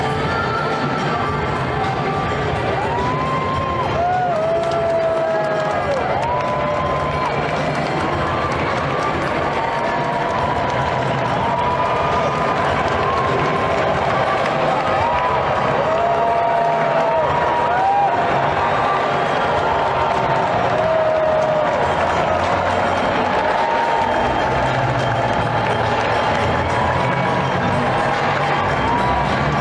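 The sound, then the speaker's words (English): A huge crowd at Arthur Ashe Stadium during the U.S. Open roars and applauds continuously as President Trump enters, a dense wall of cheering with scattered whoops and shouts rising above it, loud and sustained throughout with no break. “President Trump announced earlier in the day that he would be attending the match, and here was the crowd's reaction when he entered Arthur Ashe Stadium.”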